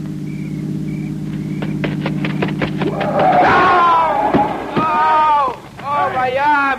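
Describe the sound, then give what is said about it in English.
A car engine hums low and steady for a few seconds as the car approaches, punctuated by sharp knocks, before a jumble of voices and a thump take over. “Listen. It's a car. It's got to be the one I think it is.”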